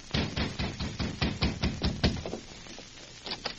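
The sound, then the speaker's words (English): A quick, steady run of hard knocks on the door of a ranch house, a dozen or so in about two seconds, then a quieter stretch with a couple of softer raps at the end. No voices. “A short time later, Anita answered a knock on the door of the ranch house.”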